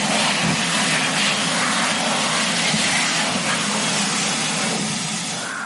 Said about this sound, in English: Ya, hand dryer atau pengering tangan. Boleh jadi banyak di antara Anda suka menggunakan pengering tangan yang meniupkan udara panas habis Anda menggunakan kamar kecil umum.